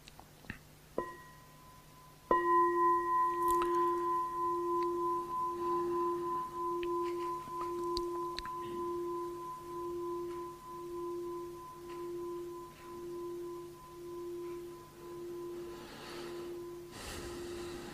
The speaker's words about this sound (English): I'm just going to invite a bell, because that wasn't intended. I just thought of it as I was walking here.